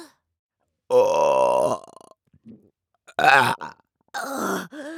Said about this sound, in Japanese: 胃の中ジャブジャブ揺れて気持ちいい。やべ、いく、またザーメンゲップ出して、いく。